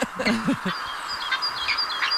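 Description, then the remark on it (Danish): A peregrine falcon calls with a few harsh, clipped cries at the start, followed by thinner high-pitched chirps, moderately loud against a faint background hiss. “Vandrefalk, heller ikke rigtigt.”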